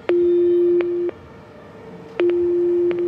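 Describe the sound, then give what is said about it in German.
An intercom at the gate of the Charlottenburg lock rings twice, each ring a steady low electronic tone about a second long, opening and closing with a click, with a quiet pause between the two rings. “Jetzt klingel ich mal.”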